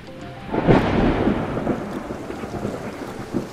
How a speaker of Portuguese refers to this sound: Chovia.